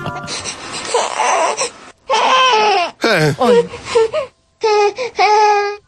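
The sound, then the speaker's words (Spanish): A baby cries in loud, wailing bursts, each cry breaking into a two-beat pattern with short catches of breath between them, and no other sounds around. “Vamos a ver, ese llanto que está así como en dos tiempos, ¿qué crees que es?”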